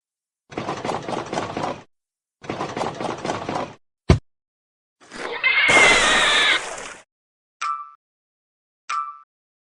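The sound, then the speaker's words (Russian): Two bursts of a pig's rapid, pulsing grunts, followed by a sharp click, a loud noisy rush and two short electronic beeps. No one speaks. “Свинья.”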